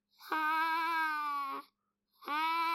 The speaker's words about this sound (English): That's not her cat. That's not her cat trying to get in her bed. That's the door slowly swaying back and forth. She probably should get that checked out. Doors aren't supposed to do that.